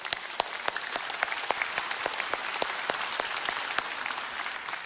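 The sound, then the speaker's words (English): A crowd claps steadily, dense applause at even loudness, with scattered sharper claps standing out, no cheering voices clearly distinct. “Can we just give a cheer for that?”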